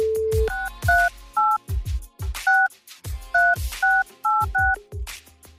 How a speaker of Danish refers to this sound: Printer potentielle deltagere ud, så jeg ikke skal kigge på dem over på skærmen. Og ikke kan huske tallet, jeg skal taste til dem, når vi skal ringe på skærmen på den anden side.